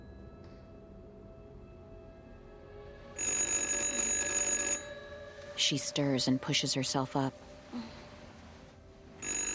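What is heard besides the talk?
telephone ringing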